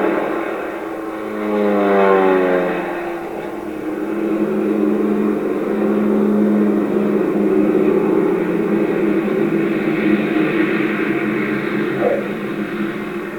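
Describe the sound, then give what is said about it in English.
Propeller airplane engines of Berlin Airlift planes at Tempelhof, flying in food and fuel for Berlin, drone steadily and loudly throughout, with a rising, shifting engine tone early on as an aircraft passes by; no one speaks. “Planes unloaded in 7 minutes and were on the ground for only half an hour.”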